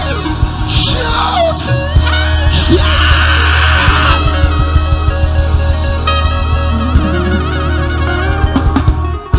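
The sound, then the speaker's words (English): A large crowd lifts up their voices, shouting and screaming together in a loud, continuous roar of overlapping voices, with individual yells and whoops rising above the din throughout. “If you receive it, lift up your voice and scream.”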